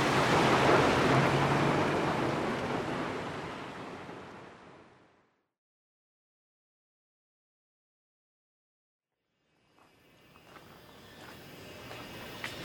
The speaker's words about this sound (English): So anyway, yeah, it is, it's calming a bit, but it's still raining pretty hard, so I guess I'll just stand here.